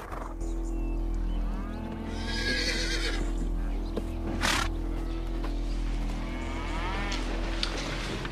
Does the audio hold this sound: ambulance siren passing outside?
no